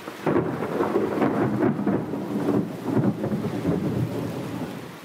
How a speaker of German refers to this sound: Es scheint wie ein böses Omen. An diesem 18. Juli 1870 tobt ein heftiges Gewitter und taucht die ewige Stadt in nachtschwarze Dunkelheit. Der Donner kracht, Blitze umzucken den Petersdom.